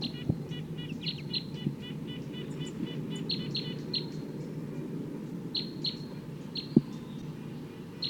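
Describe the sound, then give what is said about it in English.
Wild birds up above, in recording 258, call repeatedly with high, thin chirps and short trilled phrases, some in quick stuttering series, over a steady low rumble of background noise with a couple of sharp clicks. “That's wild bird up there.”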